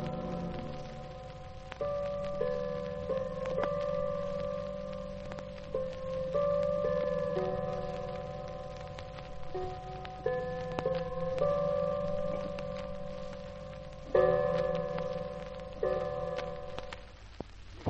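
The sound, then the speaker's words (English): A clock chimes a slow, ringing melody of sustained bell tones, then two louder, deeper strikes toward the end as it strikes two at 2 a.m. Moderately loud and resonant, with no talking. “It only struck two.”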